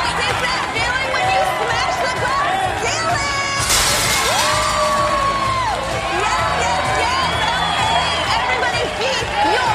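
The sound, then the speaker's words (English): A sudden crash of breaking glass bursts out once partway through, with shards trailing off, while a loud crowd cheers, shouts and chatters continuously throughout. “After Justine smashes the glass ceiling, her right fist changes to a flat hand, fingers together, sweeping through the air.”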